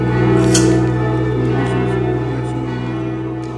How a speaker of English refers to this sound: You can even hear them when they close, after they've imposed the incense for the elevation that they're going to use at the elevations, they actually snap the thurible cover shut. You can actually hear it go clink.